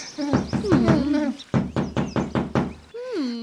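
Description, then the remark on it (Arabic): A quick series of firm knocks on a door, about a dozen sharp raps in two bursts, loud, with warbling hoot-like tones over the first burst and a short sliding call at the end. “وعندما حل المساء سمع الأصدقاء الثلاثة صوت الباب مرة أخرى، فقالت الحمامة: بخ بخ بخ، أظنه الفأر، أنا لا أخطئ أبدا.”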